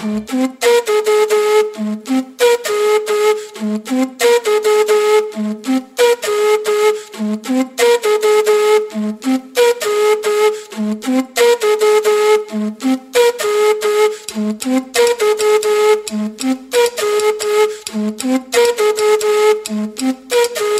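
Instrumental intro to a French song: a bright, steady groove with a repeating melodic phrase over a regular pulsing beat, played loudly throughout with no singing or talking.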